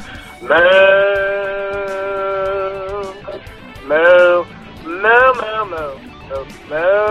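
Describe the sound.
A caller imitates a cow, letting out one long, drawn-out moo followed by three shorter, wavering moos, loud with brief pauses between them.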